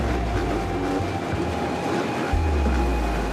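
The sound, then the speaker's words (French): A dense, continuous roar of many enduro motorcycle engines at once, loud and droning with shifting low engine tones, as the riders start the Enduropale du Touquet race, with no pauses. “15 secondes, c'est parti.”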